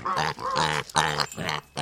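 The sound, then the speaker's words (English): A pig grunts and oinks several times in quick succession, fairly loud, each call short and throaty with brief pauses between them; no one speaks. “Researchers say they have created a technology tool that uses pig sounds to interpret different emotions the animal is feeling.”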